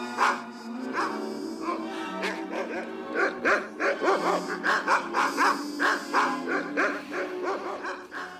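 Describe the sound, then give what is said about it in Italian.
A rapid, steady series of loud, insistent barking sounds from a scene in David Robert Mitchell's film Under the Silver Lake, repeating for several seconds against a busy background; the barks come from something other than a dog. “Abbiamo sentito abbaiare, ma non si trattava di un cane.”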